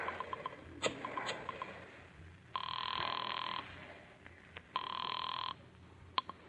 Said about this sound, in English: Pick up the phone and dial a number.